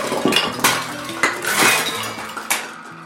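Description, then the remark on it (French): A loud crash of objects knocked down the stairs by Figaro: a rapid series of sharp clattering, clinking impacts, metallic and glassy, tumbling over about three seconds with no voices. “La leçon reprend, mais on entend soudain un grand fracas dans l'escalier.”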